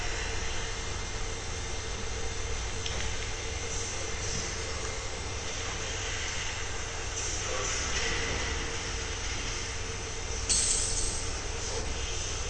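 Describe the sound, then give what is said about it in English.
A Märklin model train runs steadily along its rails, carrying a colorful board in an art installation at Kunsthalle Göppingen, giving a continuous whirring rumble with a faint metallic hiss and a brief brighter clatter near the end. No one speaks. “You can see the trains in the second, under the board in the second rail.”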